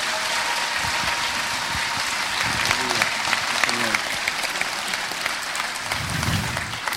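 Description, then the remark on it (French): A church audience applauds its ministry workers steadily throughout, a dense wash of clapping hands at an even, sustained level, with a few scattered voices calling out briefly beneath the applause. “Est-ce que vous voulez bien les applaudir, s'il vous plaît?”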